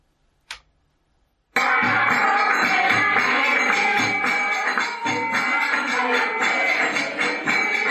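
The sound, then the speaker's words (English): After a single faint click, bells at a church in the Nuba Mountains break into loud, continuous metallic ringing, bright, clangy tones struck in a steady, rapid rhythm that carries on without pause to the end. A woman is tapping a small instrument to make the clanging. “And I want you to listen very carefully for the sound of bells.”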